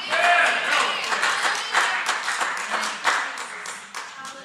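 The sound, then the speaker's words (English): Steady, scattered clapping from behind a door during a sermon fills the whole stretch, many hands striking at irregular moments in a dense, rattling wash, with voices rising and mingling underneath. “That flies back there clapping for me behind the door there.”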